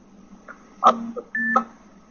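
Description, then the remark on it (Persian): A notification on the speaker's own mobile phone sounds twice, two short electronic beeps about half a second apart, fairly loud, with a faint hum between them. “من یه لحظه این گوشیمو رو حالت چی صداشو ببندم.”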